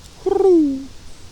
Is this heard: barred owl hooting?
yes